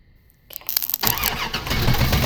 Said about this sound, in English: It's a solenoid starter, right? What are you doing? I'm hotwiring Dad's car. You know how to hotwire?